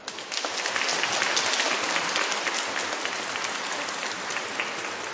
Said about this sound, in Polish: Niech nasze oklaski i uśmiechy na twarzach będą najpiękniejszym pozdrowieniem przekazanym wszystkim słuchaczom Radia Maryja, w sposób szczególny naszym najmłodszym przyjaciołom, a zatem brawa dla nich.